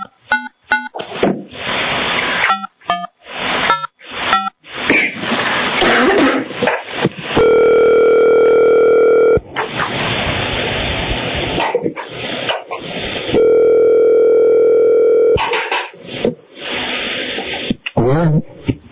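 A telephone line tone sounds twice, each a steady electronic hum lasting about two seconds with a pause between, preceded by a rapid series of clicks and noisy bursts like dialing, as a licensee joins a public meeting of the Arizona Board of Behavioral Health Examiners by phone.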